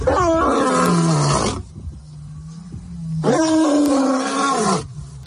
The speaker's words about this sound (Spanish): Hemos escuchado al rey de la selva, pero nos queda escuchar al tigre